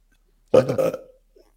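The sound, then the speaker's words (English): A single loud belch, a deep throaty rasp lasting about half a second before trailing off, with nothing else around it. A person belches on demand. “Why give us a belch?”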